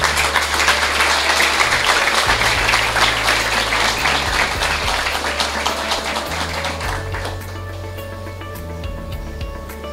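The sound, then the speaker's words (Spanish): A crowd at a UNAD event in Puerto Asís applauds the university's radio, networks and communications teams steadily, many hands clapping in a dense, continuous wash that thins slightly toward the end, with a low musical drone beneath and no talking. “Para ellos un aplauso.”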